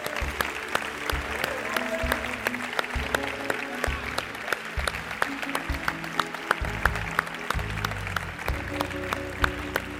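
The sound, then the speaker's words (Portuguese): An audience applauds for God, with dense, steady clapping that lasts the whole time, while low sustained keyboard or bass chords play softly underneath. “Uma salva de palmas para o nosso Deus.”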